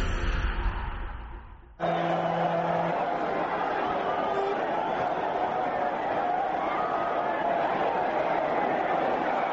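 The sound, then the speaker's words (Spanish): A short fading sound gives way abruptly to a dense, loud crowd clamour at the Tomatina festival, one of the country's most important celebrations: many voices shouting and cheering together in a continuous roar that holds steady to the end. “Bueno, esta algarabía es el sonido de una de las celebraciones más importantes de nuestro país, también de las más curiosas,”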